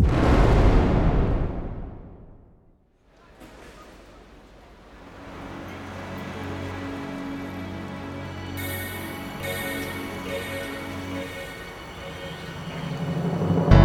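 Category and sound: sound effect, plane crash explosion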